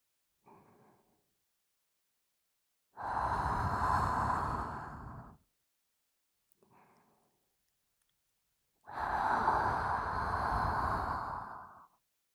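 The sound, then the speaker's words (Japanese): Two long, airy breathing sighs from a woman, each lasting a couple of seconds, with a short, faint breath before each one. No one speaks. “後ろから抱きつかれて感じる暖かさに、女性の香り、おっぱいの弾力、吐息。”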